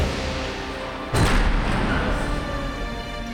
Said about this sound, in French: Fou de jalousie, il quitte la fête précipitamment en faisant claquer toutes les portes du château les unes après les autres.